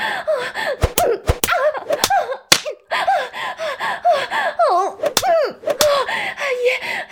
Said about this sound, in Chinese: 求你打得再重一点，用鞭子狠狠的抽，狠狠的打，打烂母狗烂屁股吧！